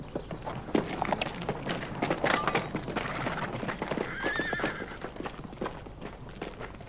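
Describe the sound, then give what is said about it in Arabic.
Several horses whinny with high, wavering neighs while hooves clip-clop steadily in a busy, irregular clatter, the clopping running throughout and the neighs rising over it midway. “ما من أحد هنا، ترجلوا عن خيولكم.”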